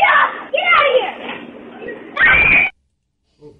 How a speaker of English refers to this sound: Oh, she's got a great voice for that. Oh, yeah. And she's got that, like, high-pitched, blood-curdling scream.